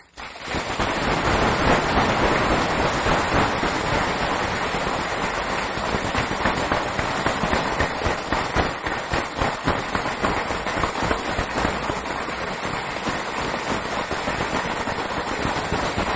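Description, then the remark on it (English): Members of the Commonwealth Club of California in San Francisco give a sustained round of warm applause to a visiting speaker. Many hands clap in a dense, crackling wash that holds steady at full strength for about sixteen seconds without any voices. “As must be apparent from the warm applause, the members of the Commonwealth Club of California are deeply grateful to you for interrupting your short business trip to San Francisco”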